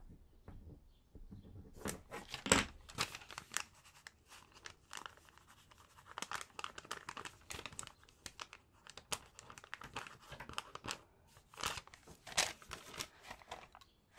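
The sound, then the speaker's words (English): Rustling and crinkling of paper, with a few sharp tearing bursts and light scratchy handling sounds scattered throughout, no voices present; a piece of paper is being handled and torn to write a phone number on with a pen. “Oh, you're lucky I come prepared with a bit of paper and pen. Let me just write that down for you.”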